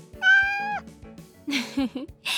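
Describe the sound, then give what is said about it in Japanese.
A cat lets out one clear, drawn-out meow, followed by a couple of shorter, lower chirpy mews and some brief rustling noise. “君にはこの猫ちゃん用おにぎりをあげよう。”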